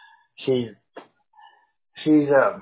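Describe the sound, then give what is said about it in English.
A small female pit bull named Shelby lets out two whiny, yowling vocalizations, a short one followed by a longer, louder one, with a few faint brief noises in the pause between. “Oh no, she's a pit bull, but she's small.”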